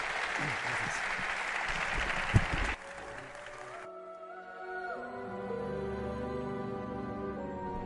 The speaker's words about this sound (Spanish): Un aplauso para él y enseguida seguimos.